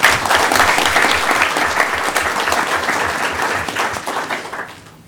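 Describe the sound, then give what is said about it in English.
Steady, dense applause from a large audience at a Manasquan Board of Education meeting honoring the Manasquan Elementary School Teacher of the Month, many hands clapping at once in a continuous wash of sound that holds for several seconds before quickly fading out at the end. “Can you give her a round of applause, please?”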